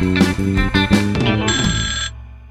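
An old telephone at a grocery shop rings loud in a couple of quick metallic bursts, then one sustained ring that fades away, with no voices.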